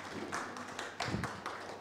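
Sparse, fairly quiet applause from an audience: a handful of distinct claps at an uneven, loose rhythm, slightly distant, with no voices over it.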